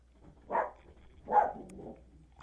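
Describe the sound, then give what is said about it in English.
Two short, sharp dog barks about a second apart, not very loud, over a quiet low hum, with no one speaking. “My dog's losing his cool.”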